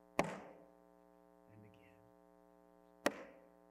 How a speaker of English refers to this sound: He lifted the hammer, let it fall, and again.